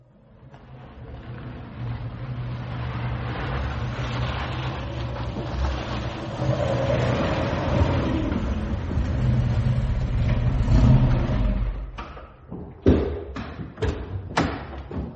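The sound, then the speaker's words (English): The engine of a car waiting outside runs steadily, swelling in a couple of revs, then cuts out after about twelve seconds, followed by a handful of sharp thumps and knocks. “The car's waiting outside.”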